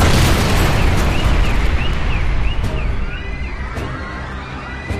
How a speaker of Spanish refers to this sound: Y marcó una hora para la explosión en el programador. Las 15 y 26. Cuando detonó el vehículo a esa hora, el centro de Oslo se convirtió en un caos.